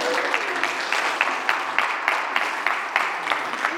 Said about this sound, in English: And all God's people said, Amen. Big round of applause, please.